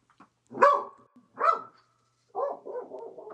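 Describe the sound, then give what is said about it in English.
A dog lets out two sharp barks about a second apart, then follows with a lower, drawn-out grumbling bark-whine. No one speaks. “Right now, Michelle is taking out her curved knife and taking care of that dog.”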